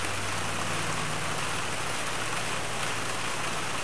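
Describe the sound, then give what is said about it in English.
Steady, dense hiss of rain heard through a phone line, constant and fairly loud, with a low hum underneath and no voices. “Yeah, when you talk, it overpowers the rain. But when you go silent, it just gets very loud.”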